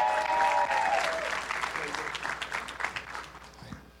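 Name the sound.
audience applause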